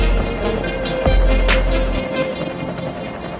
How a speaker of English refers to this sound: I hear the forceful flight of the helicopter.